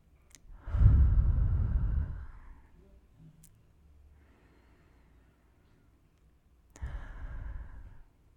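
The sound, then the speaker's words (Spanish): Two slow, deep breaths taken as a one-minute breathing exercise before a story is read. Each is a long, airy inhale-exhale swell lasting over a second, with a quiet pause and faint rustle between them and no talking. “Pero antes de comenzar, recuerda tomar un minuto de respiración para poder disfrutar el cuento.”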